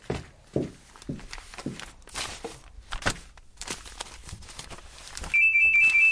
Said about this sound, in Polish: Ale nieznośny sygnał. Gdzież jest ten telefon?